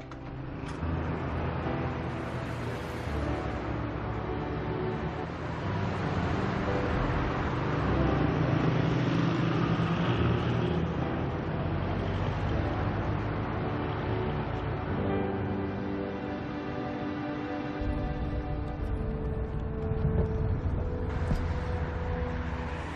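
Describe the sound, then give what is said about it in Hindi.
A car drives through traffic, its engine and road noise forming a steady, dense rumble that holds at a constant level for the whole stretch, with a brief brighter swell near the end. “Madam, गाड़ी अपने office की तरफ ले ले।”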